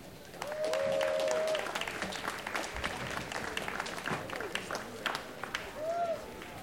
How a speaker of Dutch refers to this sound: Dus ik wil u vragen om een daverend applaus